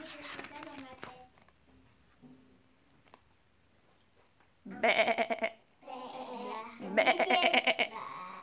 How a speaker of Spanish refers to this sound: Baló la cabra.